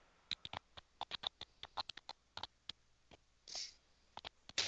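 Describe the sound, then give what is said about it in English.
Typing on a computer keyboard into a Skype chat: quick, irregular clatter of keystrokes, fairly crisp, with a short pause and a softer rustle before a few final taps. No one speaks. “are you typing? Yeah. I was actually putting into the little chat”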